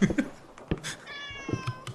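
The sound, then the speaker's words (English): A cat lets out a single drawn-out meow, moderately loud, with a few soft knocks and thumps scattered around it and no one talking. “Yeah, it is a real cat.”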